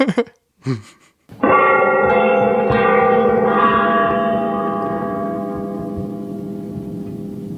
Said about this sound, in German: machen wir mal das Geräusch von Big Ben, wie er läutet